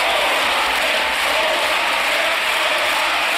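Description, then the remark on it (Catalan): A loud, unbroken roar of many voices shouting and heckling together from the Partido Popular (PP) benches in the Spanish parliament, crying "coward" at Pedro Sánchez; a dense, steady clamor with no single speaker standing out. “Han escridassat amb crits de covard Pedro Sánchez.”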